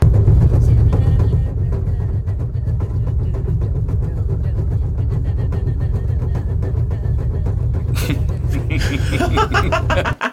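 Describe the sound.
A car drives on a badly wrecked flat tire, damaged after the car ran up onto a small traffic island, a steady loud engine rumble carrying a rapid rhythmic flapping thump; brief voices and laughter surface near the end.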